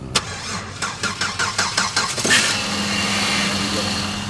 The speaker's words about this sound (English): slipping gloves over his chapped hands, he's trying to get a car started. Trying to jump a dead battery.